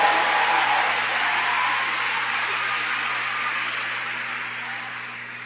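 A crowd applauds steadily, a dense wash of clapping that holds for several seconds and slowly tapers off, with a faint low hum underneath; the audience at a talk on the green economy applauds a Native American speaker.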